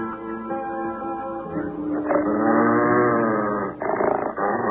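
dog growling

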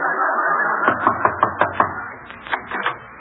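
knocking on a door

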